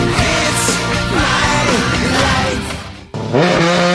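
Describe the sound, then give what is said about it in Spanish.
Loud race car engines starting on a circuit roar and rev up, their pitch sweeping up and down, cutting off briefly before another engine fires up and revs hard. “Se encienden los motores en el circuito del buen gusto.”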